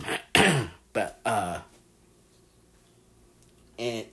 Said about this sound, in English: Sorry, I'm out of breath. I need, like, get like a drink of water or something to clear my throat.